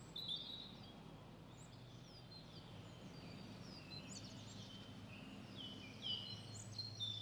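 Birds chirp and sing, heard through headphones outside Cankarjev dom, over a steady low rumble, with scattered high tweets throughout and a brighter cluster of calls near the end; no one speaks.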